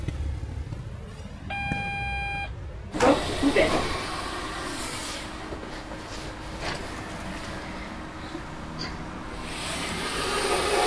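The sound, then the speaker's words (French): A wavering electronic tone and a short beeping chime, then the heavy door of a psychological evaluation cabin shuts with a loud clunk and locks, leaving a steady mechanical hum running underneath. “Porte fermée et verrouillée.”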